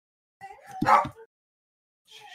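A pup lets out a short run of high, whiny yips and a bark, goes quiet for a moment, then starts yipping again, with no one talking.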